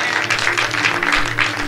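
A church crowd claps steadily as a hand clap of praise to the Lord for being born again, many hands overlapping into a dense, bright patter that stays fairly loud throughout, with a low hum running underneath.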